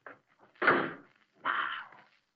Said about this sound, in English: Wait till I close this door.